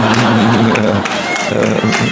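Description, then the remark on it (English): Steady, loud applause from an audience, dense clapping throughout, with a low droning hum and crowd voices mixed underneath. “He may not know what he is applauding, but he is enthused.”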